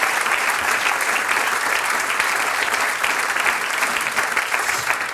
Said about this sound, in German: Den schönsten Prinzessinnen auf der Bühne einen Applaus,